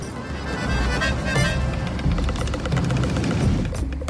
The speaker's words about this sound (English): They're just here looking at planes. Yes, it's popular. You come here, and you watch a couple of planes come and go.